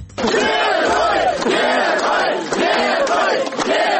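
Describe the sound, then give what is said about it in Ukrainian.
A large crowd at the Minsk bus station in Belarus shouts a welcoming chant in unison for Mykola Statkevich, a 2010 Belarusian presidential candidate. The chant is loud and sustained, with rhythmic surges repeating roughly every second as the voices rise and fall together. “Такими вигуками на мінському автовокзалі зустрічали екс-кандидата на виборах президента Білорусі 2010 року 59-річного Миколу Статкевича.”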